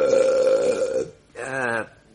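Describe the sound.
A voice imitates a burp by saying the word "burp", drawing out a long, loud, throaty vocal sound, then after a brief pause adds a second shorter, wavering one, clear.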